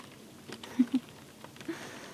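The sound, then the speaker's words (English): Light rain patters steadily, with scattered soft drops ticking irregularly and a few slightly louder taps standing out, quiet and unaccompanied by any voices. “I mean, I don't wish that it would rain every day, but this feeling is just so nice.”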